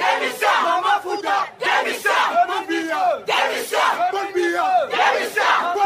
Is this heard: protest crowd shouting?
yes